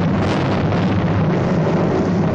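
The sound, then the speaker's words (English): Thunder rumbles in a deep, continuous roll, loud and steady for a couple of seconds with a broad, noisy texture and no voices. “That was thunder.”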